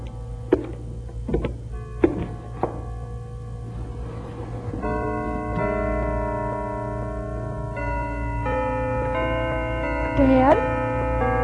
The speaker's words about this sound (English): The bells are playing. Herman's playing the bells for you. Can you hear them? Yes, Kitty girl. We hear them. They sound so strong and clear.